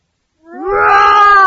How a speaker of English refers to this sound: Roar! And scary animals too.